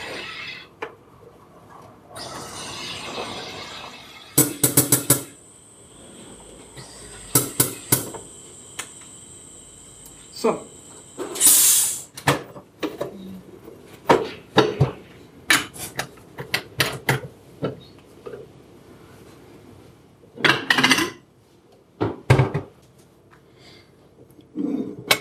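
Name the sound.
plates and cutlery clattering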